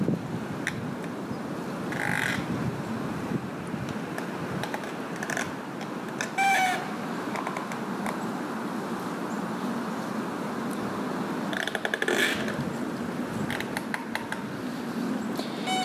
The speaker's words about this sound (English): This fall sound walk is all about leaves. The crunch of leaves underfoot and the sound of the wind gusting through the trees, blowing the last leaves down.